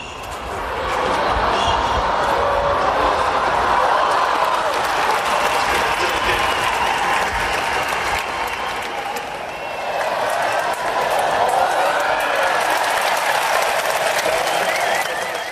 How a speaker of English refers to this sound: I thought the applause was ending, and then it's like, no, something dramatic is happening. This is an edit of three or four different moments in the final